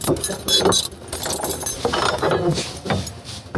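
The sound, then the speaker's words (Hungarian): A large key jangles and clinks against metal in a burst of bright, rattling metallic sounds, steady and fairly loud throughout, with no talking, at Sárgödör tér in Paks. “Találjuk is azt a hatalmas kulcsot.”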